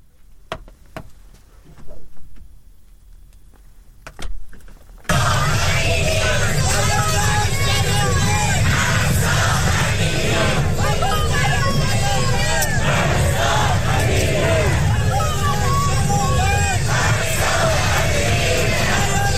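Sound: protest crowd shouting slogans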